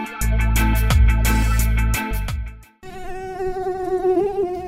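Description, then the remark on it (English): A loud, low droning burst with sharp hits cuts off abruptly, then a high-pitched mosquito whine hums steadily, wavering slightly in pitch for about two seconds. “The Zika virus is a disease caused by the bite of an infected Aedes aegypti mosquito.”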